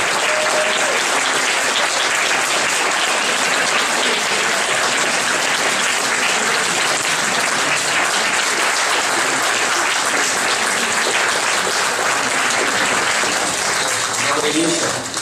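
Sustained audience applause in a hall holding about 130-140 people, at an event with Viktor Shenderovich: a dense, steady wash of clapping that stays loud and even for about fifteen seconds before easing slightly at the very end.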